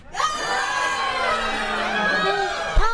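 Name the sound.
audience screaming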